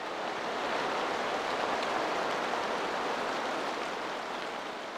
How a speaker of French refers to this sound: Le bruit de la pluie, comme beaucoup aimeraient l'entendre plus souvent en Allemagne en ce moment,